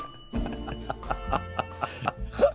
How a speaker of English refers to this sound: Wait a minute. What's that noise? Who installed this alarm on the elevator